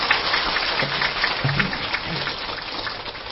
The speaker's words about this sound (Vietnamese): Xin quý vị cho một tràng pháo tay để khích lệ.